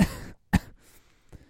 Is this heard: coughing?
yes